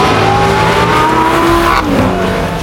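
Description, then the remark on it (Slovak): Loud, roaring car engines rev continuously, their pitch climbing and sliding in steady bursts with no one speaking over them. “Za revu motorov vznikla myšlienka spojiť všetko na letisku v Žiline 28.6.”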